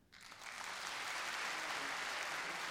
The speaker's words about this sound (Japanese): ちょっと今その団体の名前を言いますので、その方お辞儀をしていただけますか。拍手をお願いしますね。日本郷土民謡浸水会対話の皆さんです。